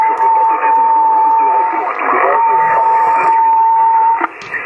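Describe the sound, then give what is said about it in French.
A steady, unbroken mid-pitched whistle runs for about four seconds over a hissy, band-limited radio channel, then cuts off abruptly with a click. “Faut pas siffler comme ça, s'il vous plaît.”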